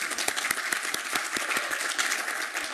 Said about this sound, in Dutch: Even applaus voor de heer Saaier.